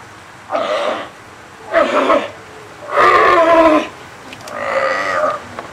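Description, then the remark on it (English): Seals and sea lions bark and bellow in four loud, harsh bursts, each lasting about a second, with short pauses between and no talking, in the chain link pens with small concrete pools at the Marine Mammal Center on a sunny day. “The animal pen area is bustling. Seals and sea lions are housed here, one, two, or three at a time, in individual chain link enclosures, each one containing its own small concrete pool.”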